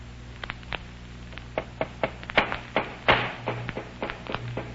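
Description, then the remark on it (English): A hammer strikes a wooden crate again and again, hammering it tight shut, about fifteen sharp knocks in an uneven rhythm, some harder and louder than others, over a low steady hum with no voices. “Well, they're hammering that crate tight shut.”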